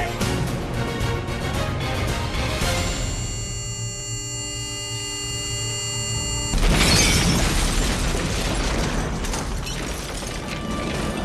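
A loud explosion bursts in abruptly after a stretch of rumbling noise and a steady, humming electronic tone, then a dense roar continues for several seconds. No one speaks.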